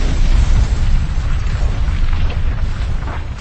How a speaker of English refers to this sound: The word plan vanished into a deafening bang. A slender cone of blowback flame shot 5 meters down the corridor, but most of the blast power was focused in the opposite direction. The entire hatch buckled inward,